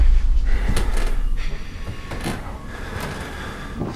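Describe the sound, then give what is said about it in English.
Slow creaking of a wooden floorboard, fairly loud, with a strained groaning tone and several sharp knocks and ticks spread across it, like weight shifting on an old floorboard. No voices. “Horror movies use a number of unique sound effects to terrify the audience, and one of the most iconic examples is a creaking floorboard in a haunted house.”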